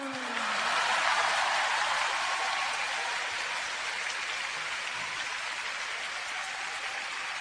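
A large crowd applauds in a dense, continuous wash of clapping that swells in within the first half-second and holds steady to the end, with no voices standing out.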